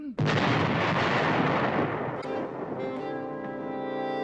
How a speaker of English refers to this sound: What was that? English horns. No, Buffett. Oh, gunfire. Oh, the Americans, General.